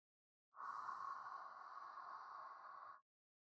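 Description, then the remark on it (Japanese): A single slow, steady hot breath exhaled, a soft airy rush lasting about two and a half seconds before stopping cleanly, with no talking. “熱い吐息で、どうです？”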